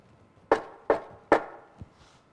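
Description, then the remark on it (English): Three sharp, evenly spaced knocks on a door, followed by a softer, duller thump. Each rap is crisp and fairly loud, with no voices. “Knocking on the door.”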